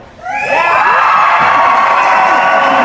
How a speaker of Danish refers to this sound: Okay, lad os så lige høre det. Skagboerne, det er kun jer, der må være med nu. Jeg, som synes, at der skal være et badehotel, I råber.